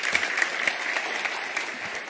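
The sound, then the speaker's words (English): A church audience applauding site pastor Don Darling as he is introduced: steady, dense clapping from many hands, a continuous crisp patter at an even loudness throughout, with no voices standing out. “Yeah, you can applaud him.”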